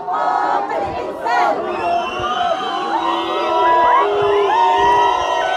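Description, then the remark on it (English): A loud crowd of unemployed protesters chanting and shouting together outside Morocco's parliament building on Boulevard Mohammed V in downtown Rabat, many overlapping voices rising and falling in a continuous, energetic roar for several seconds, with whistles of riot police. “It's the chants of the unemployed, who protest daily outside Morocco's parliament building. There are also the whistles of the riot police who try, sometimes violently, to break up the demonstrations.”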